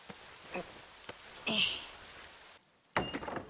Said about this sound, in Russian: Тесты, да. А чертов дождь не дает сосредоточиться.